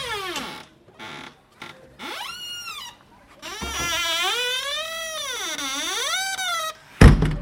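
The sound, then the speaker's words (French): A red door is unlatched and creaks open with several long, wavering squeals that rise and fall, ending in a short, sharp knock or latch sound. No voices are heard. “Oh, regarde, il y a une porte rouge ici. Vas-y, clenche.”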